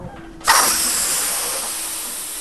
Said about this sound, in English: That joyous sound of helium balloons inflating may be limited this holiday season.